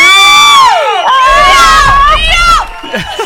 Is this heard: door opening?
no